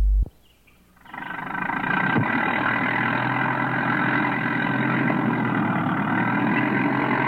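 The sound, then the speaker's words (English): After a brief click and a moment of quiet, the engine of a square, white truck that has pulled up beside a rose bush starts up and idles, a steady, loud rumbling drone that continues unbroken to the end. “Frisbee watched as a square, white truck pulled up beside the rose bush where Mr.”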